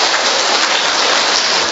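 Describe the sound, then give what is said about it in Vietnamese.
A crowd applauds to congratulate those who raised their hands wishing to become like God, a dense, steady wash of clapping that holds an even loudness for the whole moment, with no individual claps standing out and no voices over it. “Rồi, một tràng pháo tay để chúc mừng những người nên giống Chúa.”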